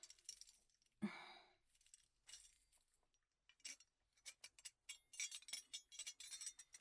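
Keys jangle and clink up close, with a sharp metallic click near the start followed by a run of quick, bright rattles as a small lock is worked open. No one speaks.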